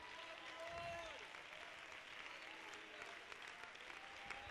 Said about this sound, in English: Shout hallelujah. Let's everybody stand to our feet and clap our hands to the Lord and give God praise.